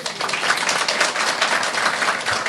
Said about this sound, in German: Applaus nochmal dafür.